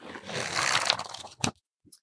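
Pages of books, including the German edition of Robert McKee's Story, riffle past in a dense, hissy rustle for over a second, ending in a sharp papery slap, then a couple of faint soft flutters. No one speaks.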